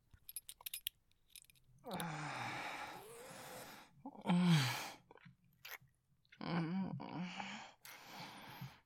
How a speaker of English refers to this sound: Look at you, baby. Breathing so deeply. Squirming. You don't need to be so nervous.